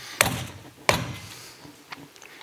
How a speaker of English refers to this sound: Suddenly you hear a pounding on the door.